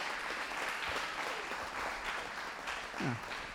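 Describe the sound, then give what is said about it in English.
Steady audience applause honoring people for their service, a dense, continuous wash of clapping hands at a constant, fairly loud level throughout, with a brief vocal sound near the end. “So please, yeah, give them a round of applause for their service in that.”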